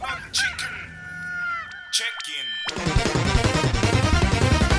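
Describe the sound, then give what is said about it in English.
A rooster's drawn-out crow rings out, fairly loud, then gives way to a dense, busy stretch of chicken clucking and squawking that continues steadily to the end. “To catch that perfect four-square chicken?”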